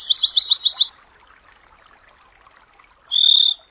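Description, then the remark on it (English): A songbird, a Western Meadowlark or an American Dipper (Water Ouzel), recorded by sound tracker Gordon Hempton, sings a quick run of about six bright, high chirping notes, pauses, then gives one sustained, clear whistled note; no one speaks. “The Western Meadowlark and the American Dipper or Water Ouzel.”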